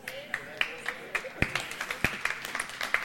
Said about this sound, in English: I wasn't asking for a clap. I was just asking if it helped.